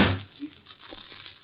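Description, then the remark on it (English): A door opening onto a terrace, with a brief rattle and thud at the start, then faint rustling and background noise fading out. “Here, this door opens onto it.”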